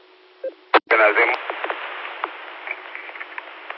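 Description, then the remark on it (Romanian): A steady low radio tone hums through a narrow, tinny channel during a radio call attempt, broken by a couple of sharp static bursts, then faint, garbled radio voices chatter over it. “Dar are ton.”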